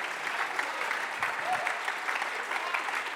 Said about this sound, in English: Alguien aplaude sus manos.